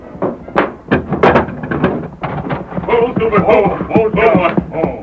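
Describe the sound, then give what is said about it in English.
A heavy wooden bar is lifted and a door swings open, with a few sharp clunks and creaks, followed by voices talking. “Hurry, unbar the door.”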